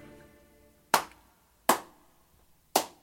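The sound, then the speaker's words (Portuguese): Three sharp, slow hand claps ring out one by one, evenly spaced, at the end of a song, after a faint sustained musical tone fades away. There are no voices. “Nem precisava aplaudir no final, muito obrigado pelo apoio moral”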